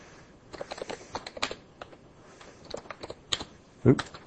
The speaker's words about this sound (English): So I'm going to just type in my address